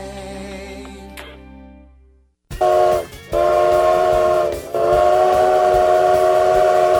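A train rumbles in loud, its whistle sounding in long, sustained blasts with a brief break between them, following a short fading tone at the start.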